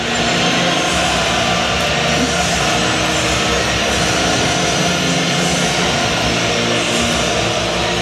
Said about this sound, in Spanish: Los pitos durante la interpretación del himno nacional cuando llegó el rey Felipe al palco de autoridades.